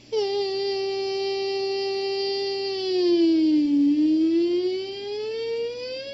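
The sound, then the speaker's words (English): A voice imitates a police siren by humming with the teeth resting gently on the bottom lip, a steady, buzzing hum that holds a pitch, dips lower around the middle, then slowly rises again, sustained and fairly loud without any words. “That way, you start actually hearing the police siren effect come out.”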